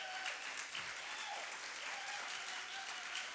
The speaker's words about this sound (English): This is, yeah, let's clap for her.